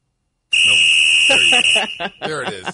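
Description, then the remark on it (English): A shrill, steady referee whistle blast rings out for just over a second, with voices talking underneath it and continuing briefly after it stops. “Can we get the whistle?”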